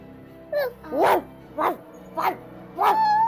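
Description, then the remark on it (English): A puppy barks five times in an uneven series of short, sharp yaps and whining barks, fairly loud, with no one speaking. “Nice puppy. I'm scared of guards. I'm allergic to dogs.”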